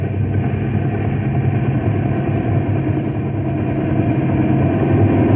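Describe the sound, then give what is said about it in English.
A helicopter being tossed around by the wind in a storm: its engine and rotors drone in a steady, loud, low rumble with a constant churning texture, holding even throughout with no voices and no break in the noise. “The wind's sure tossing that copter around.”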